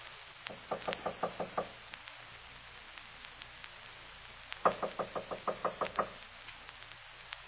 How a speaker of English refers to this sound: I'll knock. Oh, the door's open.